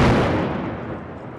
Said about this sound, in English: A stubborn outcrop is dealt with more forcefully, using dynamite provided by the German team supervising the project.